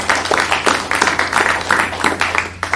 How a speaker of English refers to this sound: And you, too, Polish American of the Year. So that's deserving a round of applause as well.